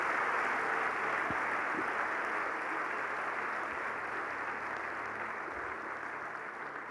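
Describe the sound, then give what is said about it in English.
A crowd applauds steadily, a dense wash of many hands clapping together at a constant level for several seconds, fading only slightly toward the end, with no voices standing out. “We can give a better hand clap, a better hand clap.”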